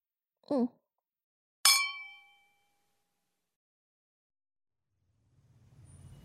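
glasses clinking

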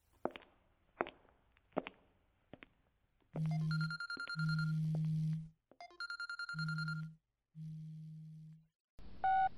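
telephone ringing

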